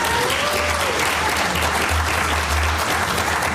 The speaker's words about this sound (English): Earned applause. That's good.